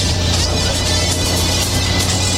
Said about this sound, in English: Well, I just checked the sound level, make sure it's picking up. This engine's kind of noisy, and I'm riding around with the top down.